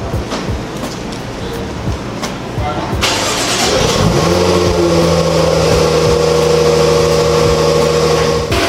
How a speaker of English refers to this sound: So now the car started.